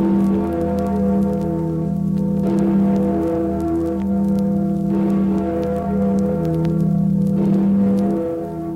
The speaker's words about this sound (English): That was the Freedom Bell to remind you that you are listening to Radio Free Europe.